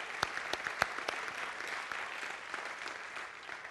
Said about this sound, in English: So give them a round of applause for what they do.